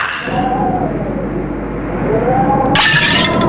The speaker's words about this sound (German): Mein Glas! Mein wertvolles Glas! Es ist in 1000 Scherben zersprungen.